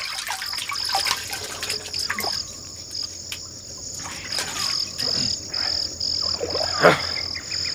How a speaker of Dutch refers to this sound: Sneed en Norris wassen zich in de rivier.